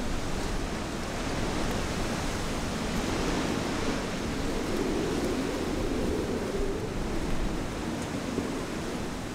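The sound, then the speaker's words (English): Strong storm wind howling through the town on Tangier island in the United States at 40 or 50 miles an hour, roaring steadily for the whole stretch, a dense, buffeting rush heavy in the low end, with no pauses and no voices. “The storm's blown in, and the wind is howling through the town at 40 or 50 miles an hour.”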